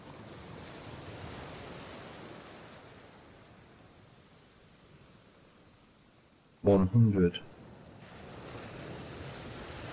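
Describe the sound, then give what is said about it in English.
Steady ocean surf washes in a continuous, soft roar with gentle swells in intensity, and a brief spoken voice guiding a relaxation exercise cuts in near the end. “Allow the waves to wash the relaxation down your neck in the back of your spine.”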